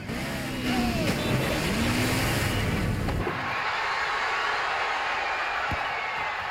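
A car engine roars and revs as it speeds along, weaving in and out of traffic, with swooping pitch shifts of vehicles rushing past. The car then splashes through a fountain as the engine gives way to a steady, loud rushing wash of noise.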